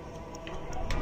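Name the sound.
clock ticking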